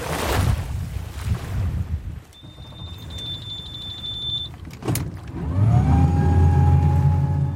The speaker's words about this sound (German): Christian Mititello startet sein Boot, um sich von der Küste wieder auf den Rückweg in die Stadt Tulcea zu machen